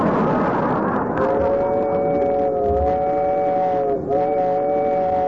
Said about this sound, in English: This is the slowest train I ever rode on.